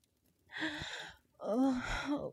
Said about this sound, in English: Oh, God. I gasped hard, unable to help the quivering moan that escaped me.